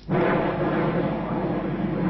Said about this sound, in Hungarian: Csak a repülők zaja. Ez volt minden, ami zavarhatta időnként a megemlékezést az új köztemető 301-es parcellájánál.